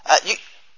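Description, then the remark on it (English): A single short sneeze bursts out, a sharp two-part explosive puff of breath that cuts off quickly into quiet. “bless you, in my, oh, again, bless you”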